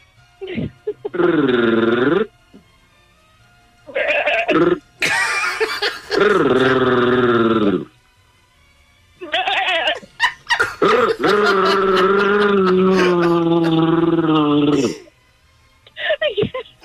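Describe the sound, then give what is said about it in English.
Human voices imitate goat bleats, trading a series of loud, wavering, nasal cries back and forth, some short and some drawn out, with brief pauses between them. “I'd like you to meet …. She does a goat.”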